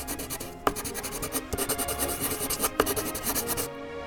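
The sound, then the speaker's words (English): A pencil scratches across canvas drawing the outline of a house in quick, continuous back-and-forth strokes, a dry rasp with a few sharper taps, steady for about four seconds with no voices. “Begin by drawing an outline on the canvas in pencil.”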